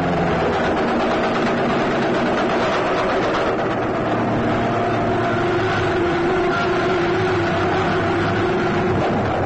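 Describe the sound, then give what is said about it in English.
A Nazi warplane engine drones steadily as the plane heads straight toward the listeners, a dense, rumbling roar threaded with low humming tones that holds at an even, fairly loud level throughout, with no voices. “Maybe it's a Russian plane. We must be near enough. That's no Russian. That's a Nazi. Making straight for us.”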